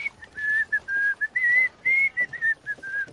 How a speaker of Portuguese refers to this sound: Uma velha canção de ferreiros, eu vou assobiando.